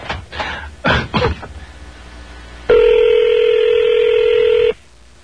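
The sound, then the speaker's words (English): A single steady ringback tone on a phone line during a test call to a room, about two seconds long and fairly loud, following a few brief throat-clearing or coughing sounds at the start. “We're going to try to call Bob Barker's room.”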